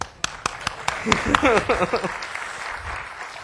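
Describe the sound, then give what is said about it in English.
A short smattering of applause, sharp separate claps in an uneven rhythm, with voices talking over them midway before it fades into a quiet murmur. “We'll have to give you a round of applause there.”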